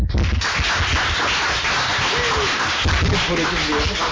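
A crowd applauds steadily, dense overlapping claps forming a loud, even wash of sound for the full length, with a faint voice briefly surfacing near the end.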